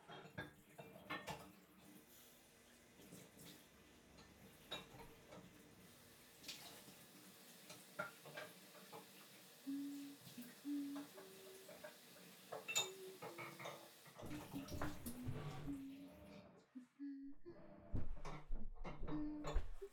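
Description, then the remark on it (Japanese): Dishes being washed by hand at a sink: running water with frequent clinks and clatters of plates and cutlery, close by and fairly steady, with no talking. “さ、洗濯機さんが頑張ってくれている間に食器を洗っちゃいますね。”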